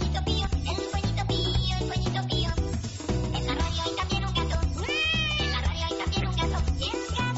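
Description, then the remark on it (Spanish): A cat meows repeatedly in drawn-out, wavering cries as it goes after a pigeon, over a dense, busy background of other sounds, with a prominent rising and falling yowl near the end. “El gato que va por la paloma, don Joaquín, en el complejo erótico.”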